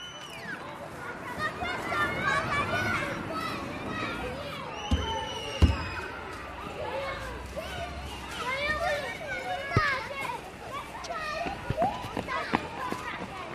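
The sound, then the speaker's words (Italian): Many children's voices overlap in lively chatter and shouts in a small outdoor square where about twenty families wait under birch trees, with occasional sharp knocks or pops breaking through the steady hubbub. “Mentre calpestiamo montagne di foglie secche, le voci si sgranano nella piazzetta, dove una ventina di famiglie aspetta sotto le betulle.”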